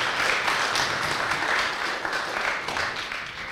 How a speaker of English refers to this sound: Let's give him another hand clap of praise for all he's done.